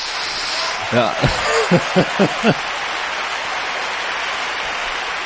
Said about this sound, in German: Applaus bitte, Applaus, Applaus.